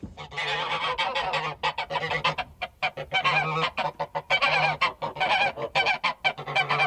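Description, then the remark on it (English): A flock of geese honks loudly and continuously, their overlapping nasal calls forming a dense, clamorous chorus with brief gaps between bursts. “Yes, geese.”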